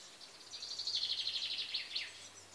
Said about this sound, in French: Une vallée et des champs, donc. Les oiseaux dont je vous parlais un peu avant. Ça vole, ça piaille.